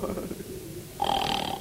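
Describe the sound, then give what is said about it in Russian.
A man snoring at night, a rough, rumbling breath that turns into a louder, nasal whistling snort near the end. “Он раньше так не храпел.”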